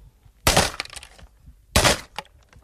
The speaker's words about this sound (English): please don't smash my tape recorder with a 14-pound sledgehammer.